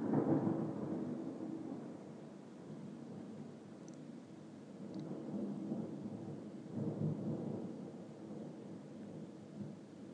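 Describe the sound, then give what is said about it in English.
A deep, rolling thunderclap rumbles for several seconds, swelling again partway through, over a soft steady hiss of rain during a rainstorm in Scotland. Nobody speaks. “thunderclap.”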